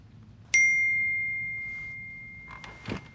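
A single bright SMS text message notification ding on a phone chimes out clearly and rings on with a long, fading tail, over a low background hum, followed by a faint rustle and soft thump.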